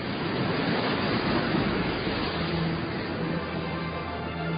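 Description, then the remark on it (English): A constant roar of rough Southern Ocean surf churns beneath steady buffeting gale-force wind, loud, with low rumbling swells and a faint tonal hum emerging near the end. No voices are present. “Howling gales whip it into huge waves.”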